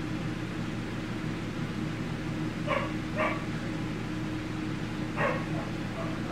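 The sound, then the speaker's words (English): A few short dog barks ring out over a steady hiss of background noise, arriving in a brief pair and then a single bark a couple of seconds later. “Dogs are getting bold. Getting damn well bold.”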